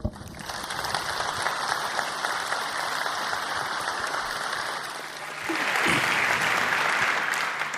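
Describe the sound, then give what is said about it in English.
Sustained applause from a large audience welcoming a speaker on stage for a talk on MicroPython, a dense steady clatter of many hands clapping at an even loudness, swelling slightly near the end. “Your stage and your applause.”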